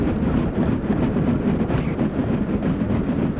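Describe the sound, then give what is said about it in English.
Arctic sea ice groans and grinds in a deep, continuous rumble, steady and loud throughout, much like a running motor engine, with no voices present. “Well, that's Arctic sea ice. It sounds like a motor engine.”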